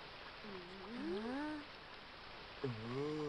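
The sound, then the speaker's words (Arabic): Steady rain hisses throughout, a soft continuous wash of falling water, while two drawn-out, rising-and-falling vocal calls sound over it, the second after a brief lull. “ولكن السماء ما تزال تمطر.”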